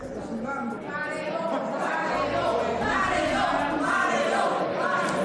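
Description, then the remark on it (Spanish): A large crowd shouts in unison, many voices merging into a loud, sustained chant of "Al paredón" with rhythmic surges and no pauses throughout, as Maduro's Constituent Assembly ratifies the removal of Juan Guaidó's parliamentary immunity. “Al grito de Alparedón, la Asamblea Constituyente de Maduro ratificaba la retirada de la inmunidad parlamentaria a Juan Guaidó.”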